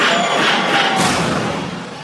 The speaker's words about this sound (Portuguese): Eu vou dizer legal, o grito da rapaziada que vai pegar geral.